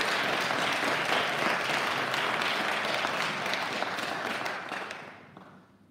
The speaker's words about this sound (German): Lass uns wirklich uns für unseren Pastor ins Zeug legen. Ein Applaus. Ein Applaus.